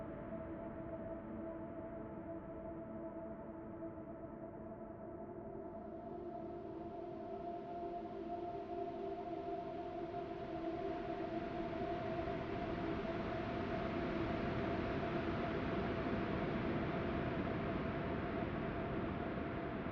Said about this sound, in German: Das Geräusch der Wellen ist ebenso einzigartig wie ihr Anblick. Das rhythmische, verlangsamte Rauschen klingt tiefer und voller als auf der Erde. Es klingt wie eine kosmische Klangschale.